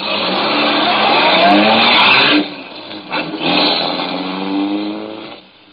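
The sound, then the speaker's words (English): A car engine roars and revs loudly, its pitch climbing, then dips briefly before revving up again with a tire squeal as the car pulls away, fading at the end. “Put the letter opener inside my coat, closed the trunk, got the car started.”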